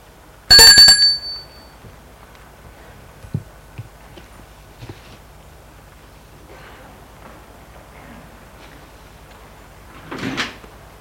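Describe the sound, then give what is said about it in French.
A bright doorbell at the door of a house rings once at the start, followed by a few soft latch clicks and, near the end, a brief rushing swish as a servant pulls the door open to let visitors in. No one speaks. “Le domestique leur a ouvert, les laisse entrer.”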